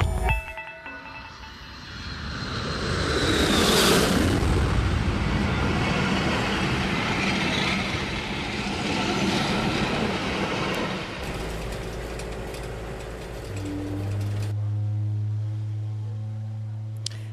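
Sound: train rolling on rails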